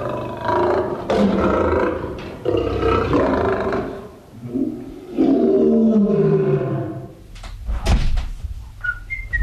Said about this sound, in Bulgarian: Записи от истински рев на зверове. Хиената е звънецът на задната врата. Звънецът на парадния вход е рев на лъв.